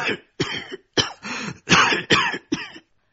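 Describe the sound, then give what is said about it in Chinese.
A man coughs several times in quick succession, harsh, with short pauses between the bursts and a throaty, rasping quality, as if a piece of cucumber were caught in his throat; no talking around it. “好像黄瓜卡到了嗓子眼儿，他咳嗽了几声”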